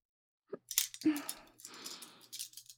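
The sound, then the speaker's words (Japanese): Small special eyebrow scissors snip while trimming a customer's eyebrows, a few quick crisp metallic clicks and brushing rasps in an irregular run, fairly quiet with no talking. “こちらの専用のハサミって、チョキチョキと。”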